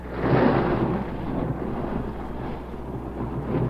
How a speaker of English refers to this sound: And 40 Grand National stock cars fire up. And we're getting close to the start of the 14th Daytona 500.